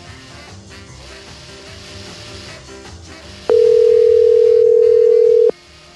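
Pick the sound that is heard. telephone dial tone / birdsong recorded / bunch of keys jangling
telephone dial tone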